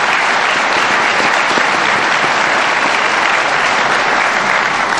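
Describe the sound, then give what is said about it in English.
Steady, dense applause from an audience congratulating the two candidates in a mayoral runoff election before a debate's opening statements, a loud wash of many hands clapping that holds evenly for the full five seconds with no voices standing out. “And finally, before the opening statements, another round of applause and appreciation to congratulate our two candidates for being in the runoff election for mayor.”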